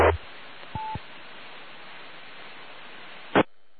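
A single short telephone dialing beep sounds over a steady hiss of line static, with a click near the start and another sharp click near the end. No voices are heard.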